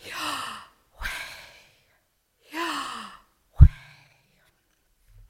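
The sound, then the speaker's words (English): A person breathes audibly in and out, voicing the letters YHWH as breath sounds: four breathy, sigh-like inhales and exhales in a slow rhythm, fairly loud, the last one ending with a soft thump. “It actually sounds like breathing, the YH, the inhale, and the WH, the exhale.”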